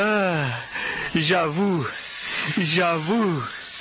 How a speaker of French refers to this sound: Ils ont lâché le serpent, non? Ils ont lâché le serpent. Regardez, le serpent s'approche de lui.